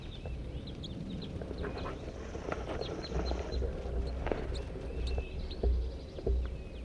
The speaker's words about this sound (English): Oh my gosh, here's a flock of 8 crossbills.